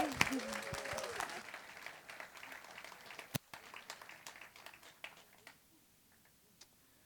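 Audience applause, a dense burst of clapping that starts strong and gradually thins out, with a few scattered sharp claps lingering before fading to quiet after about six seconds.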